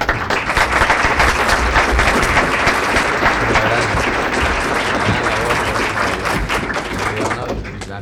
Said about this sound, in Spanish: Muy bien, aplaudirle porque está muy bien.